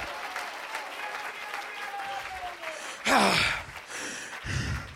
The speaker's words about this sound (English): Somebody clap your hands to the Lord. Give God praise. Give God praise.